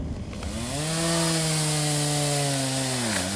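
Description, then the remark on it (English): A chainsaw runs steadily, its loud, buzzing engine holding a constant pitch with a brief dip near the end as it cuts into wood of trees toppled by a storm, used by drivers clearing the way to a research camp in the Amazon jungle near Manaus, Brazil. No one speaks. “Sounds of chainsaws and machetes, not from loggers, but our drivers.”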